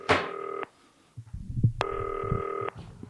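telephone ringing

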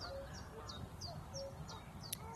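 goose honking

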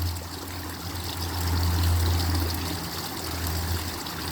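flowing stream water

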